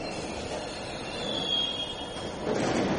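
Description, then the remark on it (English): An Edgware-bound London Underground train rumbles into Leicester Square station, with a broad steady roar and a faint high metallic squeal from the wheels, growing slightly louder near the end. No one speaks. “Leicester Square! Leicester Square! Edgware train! Find the doors!”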